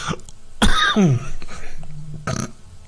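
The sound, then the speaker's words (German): A heavy cough bursts out loudly with a rough, voiced, throaty tail, then a shorter second cough follows a moment later over quiet background noise. “Jetzt baut ja schon die Huster in das Intro ein.”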